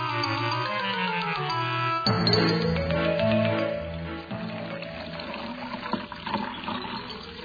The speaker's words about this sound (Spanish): Llena un vaso de agua hasta el borde.